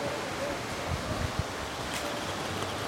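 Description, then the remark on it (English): Water bubbles softly and steadily through a water pipe as someone inhales, a fairly quiet gurgling hiss with a few slightly louder low pops around the middle. No one speaks. “Do you like that bubble or would you like a more of a bubble?”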